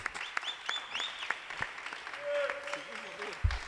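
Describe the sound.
Audience applause after a poetry recitation: a few seconds of scattered, moderately loud clapping, with voices and some brief whistling tones mixed in.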